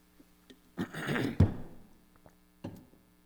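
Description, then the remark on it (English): Someone clears their throat with a rough, raspy burst lasting about half a second and ending in a low thump, followed by a shorter, softer clearing a moment later. No one speaks. “Let me try to clear my throat a little.”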